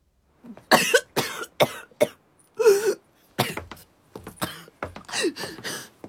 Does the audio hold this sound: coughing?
yes